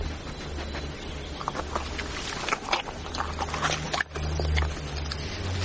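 A medium-sized dog with long curly hair eagerly chews and gulps down a slice of cold meat, with wet smacking and crunching sounds, over a steady low background hum.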